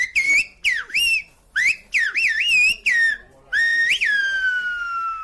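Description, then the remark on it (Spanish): A loud human whistle demonstrating Silbo Gomero, the whistled language of La Gomera, in a rapid series of gliding, rising and falling tones, broken into short phrases like speech, ending on one long descending note. No one talks. “Bueno, y además también allí en la Gomera te hicieron hasta una demostración de Silvio Gomero, ¿eh?”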